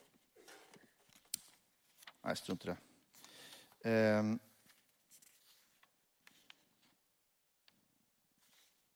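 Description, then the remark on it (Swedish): Sheets of paper rustle and shuffle in a few short, crisp bursts as a man gets his papers out during a talk, with him speaking briefly in between. “Jag ska bara se så jag får upp mina papper här.”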